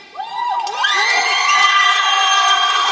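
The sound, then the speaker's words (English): A crowd erupts in loud, sustained cheers of approval, dominated by shrill, high-pitched women's voices, after a statement on women's choice about abortion, rising sharply within the first second and holding steady without any speech. “You might note that those are rather high-pitched cheers of approval.”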